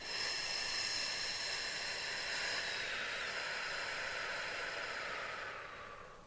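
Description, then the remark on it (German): A long, steady breath blown out slowly through the lips during a breathing exercise, a soft airy hiss that holds even for several seconds before tapering away. No one speaks. “Und ein letztes Mal fassen Sie mal auf den Bauch und dass Sie sehen, dass der Bauch rausfällt und pusten Sie die Flamme langsam in eine Richtung. Und einatmen. Und pusten.”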